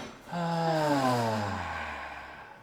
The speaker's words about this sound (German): Wir atmen immer gemeinsam ein und dann durch den Mund aus.